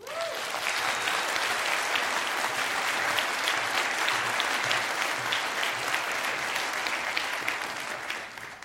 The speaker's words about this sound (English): So a very special, very decent, loud, amazing applause